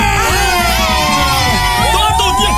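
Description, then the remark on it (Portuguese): A crowd of programme participants shouts and cheers loudly and continuously after a 100-reais prize draw, overlapping voices forming a dense roar with a few rising whoops and yells standing out. “Obrigado, vocês que participaram, não vão ganhar nada, estão aí gritando, vem, vai ganhar”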